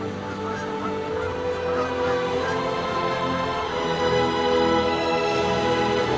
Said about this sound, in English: Naturally, birds also join in the feast.